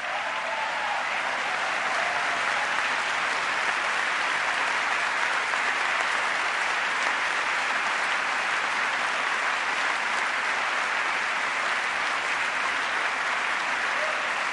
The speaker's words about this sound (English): The Israeli Prime Minister savoring the moment. Dramatic pauses for applause.